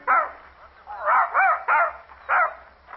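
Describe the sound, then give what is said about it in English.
A male dog barks four or five times in short, sharp bursts with brief pauses between, fairly loud, with some whiny, yelping tones mixed in. “Down, boy. Down. Oh, you like dogs”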